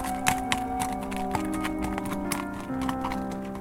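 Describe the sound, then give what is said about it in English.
Horse hooves clop slowly across the warped, mold-shrouded wooden planks of a bridge, a series of uneven, hollow knocks at a walking pace, over a steady low droning background. “The bridge held tight as his horse navigated its warp planks.”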